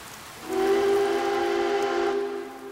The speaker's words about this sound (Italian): C'è un trenino. Un trenino che cammina sotto la pioggia.